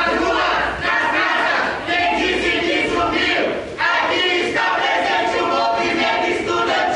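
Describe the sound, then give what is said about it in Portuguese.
A large crowd of students with delayed scholarship payments cheers and chants loudly and continuously as the Brazilian Joint Budget Committee approves a supplementary credit bill, voices massed together in a dense, energetic roar with rhythmic surges of shouting. “Com a forte torcida de estudantes que estão com bolsas atrasadas, a Comissão Mista de Orçamento aprovou o projeto que vai abrir um crédito de mais de 4 bilhões de reais”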